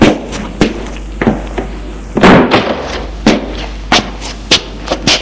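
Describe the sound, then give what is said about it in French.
An apartment door being shut by a maid: a heavier bang near the middle among a series of sharp, uneven knocks and thuds, fairly loud, with no voices. “Ils entrent et la bonne ferme.”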